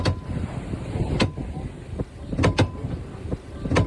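An orca about 8 to 10 meters long ramming a sailing yacht's steering column: about six sharp, heavy knocks at irregular intervals, some in quick pairs, over a steady rumble of wind and water.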